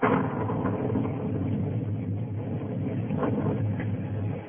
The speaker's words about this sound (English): There's no thunder in the world, Johanna, like the thunder of the Catskills. The lightning seems to set the mountains on fire, and they roar back.